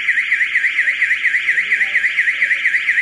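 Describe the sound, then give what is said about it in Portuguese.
A loud electronic alarm, set off during the night to try to disperse protesters, wails continuously, its piercing tone warbling up and down in a fast, steady cycle throughout, dominant with no voices. “Segundo ela, durante a noite, um alarme foi disparado para tentar dispersar os manifestantes.”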